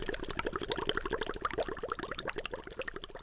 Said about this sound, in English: I like to help my mom make a big pot of thick boiling chili.